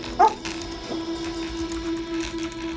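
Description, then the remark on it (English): A dog named Sirius gives one short, sharp bark near the start, then keeps up a steady, high whimpering whine for the rest of the moment, with no one talking. “Later, Cosmas tells his dog Sirius.”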